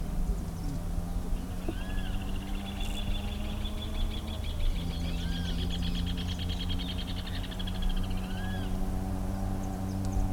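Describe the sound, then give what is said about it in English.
A rufous-collared sparrow gives three short, clear slurred whistles spaced a few seconds apart, over a faint high buzzing trill and a steady low background hum. “That's a zoniatricicapensis, which I cannot say”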